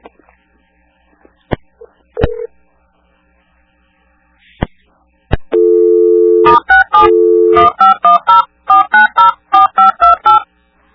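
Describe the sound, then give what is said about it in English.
A string of loud touch-tone keypad beeps, short dual-pitch tones pressed in a quick, slightly uneven rhythm after a few scattered clicks and a steady tone, with no talking; keys pressed during a phone call to the Motel 6 Fremont South. “Please what number? What you hit?”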